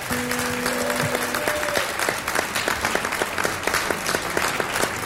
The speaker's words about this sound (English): But ladies and gentlemen, we voted him on our stage, so let's welcome him with a nice, loving, Far West Woodland Hills applause.